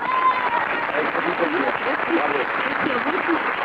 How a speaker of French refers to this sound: on les applaudit.